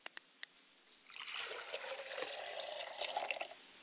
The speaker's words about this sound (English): As I begin to pour libation, I set a glass of water for my father's spirit, and I say, Ashe. I pour a glass of water for my mother's spirit, and I say, Ashe.